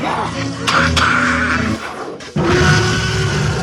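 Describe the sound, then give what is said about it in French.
A voice imitates a tyrannosaurus roar with two loud, raspy, growling bursts: a long rumbling one, a brief pause, then a second harsh roar. “Là, c'est un Tyrannosaure.”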